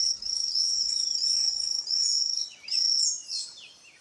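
A poison frog's high, buzzy trill repeats in several sustained bursts with brief gaps, set against a soft hum of rainforest insects and a faint bird chirp near the end.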